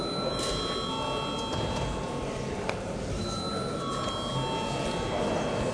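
A parliament voting bell rings without a break for several seconds before deputies vote on passing a bill in its third and final reading, a steady, bright electric tone with layered overtones, over a low rumble and a faint murmur of voices.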